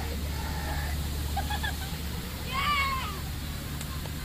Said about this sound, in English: Uh-oh, guys, we got a waterfall. We gotta turn this boat. We gotta turn the boat.